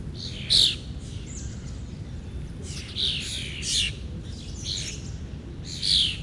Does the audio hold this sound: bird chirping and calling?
yes